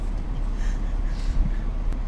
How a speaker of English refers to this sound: I can't hear you over this air conditioner.